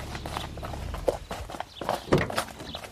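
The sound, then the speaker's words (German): Horse hooves clip-clop in an uneven rhythm as a horse-drawn wagon approaches, with rumbling and clattering beneath the steady hoofbeats. “Hör mal, da kommt ein Wagen.”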